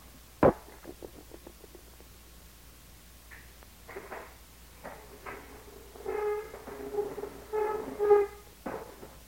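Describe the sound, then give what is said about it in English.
A chair is fetched and moved: one sharp thump, then scattered bumps and drawn-out creaking scrapes, fairly quiet, with no talking. “Wait till I get a chair.”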